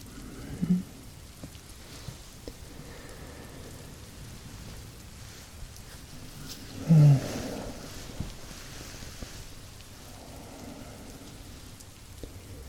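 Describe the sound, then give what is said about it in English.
Steady summer rain patters down on surfaces, a soft continuous hiss with scattered drips, and a couple of brief louder thuds punctuate it, one near the start and one in the middle. “Some delicious summer rain.”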